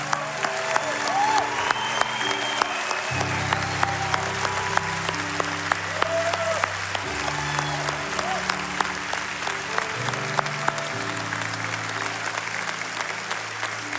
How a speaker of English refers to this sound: Come on, let's keep clapping for them. They're cheering in heaven.